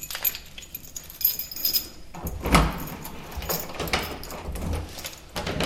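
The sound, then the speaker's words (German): Keys jingle and rattle, followed by a broader clunk and rustling as the door of a house is worked open, with a low ambient hum throughout and no one speaking. “Und plötzlich steht man vor einem Haus. Da soll man jetzt rein. Die Schlüssel sind gelegt.”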